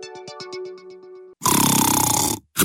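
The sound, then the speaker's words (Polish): A short run of rhythmic musical tones gives way to a loud, rasping snore from a man, lasting about a second, then the start of another snore breath. “Odkąd mój mąż ubezpieczył firmę w Metropolitan Insurance Group, chrapie, czy śpi spokojnie.”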